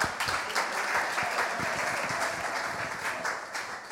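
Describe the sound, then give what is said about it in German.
A crowd claps steadily for two male helpers, a dense patter of many hands for the full stretch, moderately loud, with a few faint voices mixed in. “Wow, Applaus für diese strammen Männer.”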